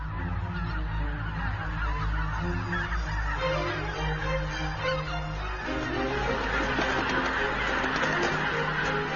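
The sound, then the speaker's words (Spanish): A large flock of geese feeding in the Biepsa valley honks continuously, many overlapping calls forming a dense, steady clamor that fills the scene without pause, with no voices present. “Después de unas 2 semanas de intensa alimentación, los gansos abandonan el valle del Biepsa.”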